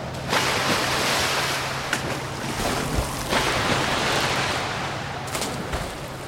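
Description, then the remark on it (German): Steady rushing of sea waves fills the scene, loud, with a few brief splashy bursts as five friends jump together from a ship's rail into the sea, breaking through the continuous wash of water and wind. No one speaks. “Kurz nachdem die Freunde ins Wasser gesprungen sind, taucht Pete als erster wieder auf.”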